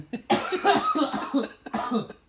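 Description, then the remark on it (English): A heavy, hacking coughing fit: a long, loud burst of rough, wheezy coughs, a brief pause, then another strong raspy cough. No one speaks. “Cough a lung up.”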